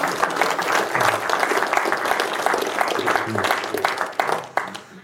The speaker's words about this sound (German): Das hat einen Applaus verdient, glaube ich.